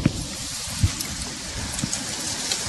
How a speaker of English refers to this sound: It sounds like a rain stick. Nice. Listen to that. No. Ow. Well, I'm getting all wet. It's a very calming sound. Today's show will be brought to you from South Africa with the calming sounds of an African midday rain. Listen to the African rain.